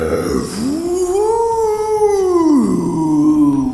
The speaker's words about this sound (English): The freed snow ghosts fly up as Dogzilla breathes a frosty breath into the clouds, howling and aiming its snout with purpose as it seems to build a massive ship of ice.